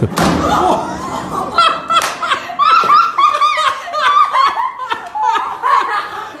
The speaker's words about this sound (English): So basically he's showing off, doesn't see a door and gets smacks into the door so hard. Have a listen.